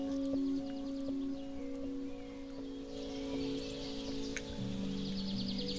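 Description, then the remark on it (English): Steady bell-like metallic tones shift between pitches like a gamelan, while bright chirping bird calls flutter above them throughout, with no speech. “Sort of a spring thing with birds. And then this gamelan sort of instrument.”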